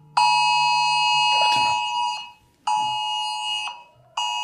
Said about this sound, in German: Ach, das ist ja interessant. Notfallalarm. Oh, Probewarnung, das ist ja auch gut.